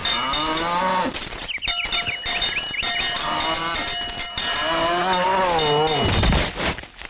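Loud, drawn-out cow moos rise and fall, one at the start and another longer bellow later, with a cowbell clanking steadily in the background.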